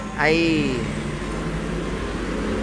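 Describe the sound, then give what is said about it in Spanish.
Busy street traffic in the Dominican Republic rumbles steadily throughout, a constant wash of engine and road noise from motorbikes and trucks, with a brief rising horn blare cutting in near the start before fading back into the din. “Hay motoras, hay camiones, hay bocinas a todo lo que da.”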